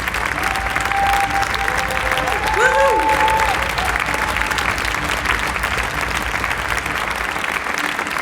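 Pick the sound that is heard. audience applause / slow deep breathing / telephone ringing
audience applause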